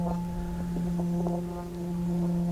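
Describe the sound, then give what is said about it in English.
A deep, resonant bell tone rings and hums steadily throughout, its low fundamental and layered overtones sustained without fading, with faint murmuring underneath. “That you sort of listen to the sound of the bell.”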